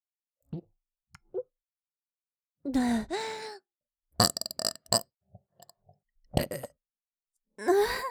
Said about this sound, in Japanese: ゲップが、失礼しました。